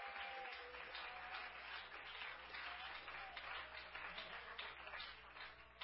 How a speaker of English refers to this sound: I'm very near to asking you not to clap anymore because it's a distraction.